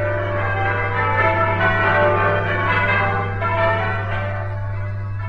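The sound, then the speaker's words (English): Church bells peal steadily from a tower, with overlapping rich, ringing tones and repeated strikes layered into a continuous wash of sound, loud and sustained over a low hum, with no voices. “From the heights of our graceful bell tower, the bells ring out their welcome, inviting you to spend the next half hour listening to music warm, comforting, and uplifting.”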